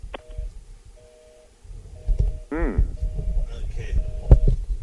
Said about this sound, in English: Okay. Does not sound promising. All right, no. The lines are busy. That could just be bad traffic or it could be problems, right, with the storm. Yeah. More than likely, it's problems with a storm.